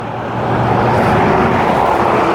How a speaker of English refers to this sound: Okay, I'm at the end of the street. You can probably hear the traffic now. I have to go out to this one main road and ride down this main road for maybe 200 yards.